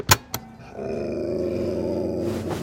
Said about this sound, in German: Es tut mir leid, aber du hast ihn ja gehört. Wer knurrt, muss runter vom Bett.